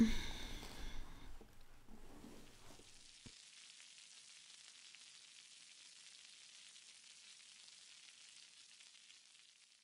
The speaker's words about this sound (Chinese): 煎个蛋。